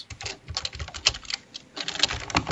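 Rapid, forceful keystrokes clatter on a computer keyboard struck as if to break it, picked up by a sensitive microphone, a dense run of sharp clicks with a brief lull midway, fairly loud with no voices.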